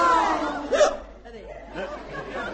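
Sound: hiccup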